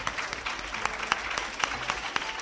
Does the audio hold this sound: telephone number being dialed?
no